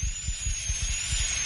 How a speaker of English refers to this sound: I'm drilling out the old filling now. Just a little more. Can you feel that?